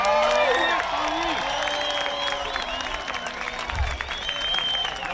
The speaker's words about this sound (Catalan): També hi va haver ovacions espontànies com aquesta Cala Blanca a Menorca.